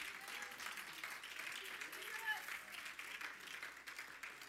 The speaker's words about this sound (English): Somebody give God a hand clap of praise this morning.